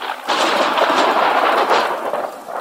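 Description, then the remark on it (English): A loud, sustained roll of thunder rumbles and crackles steadily for a few seconds, full, with no voices, on a dark and stormy night. “It is a dark and stormy night.”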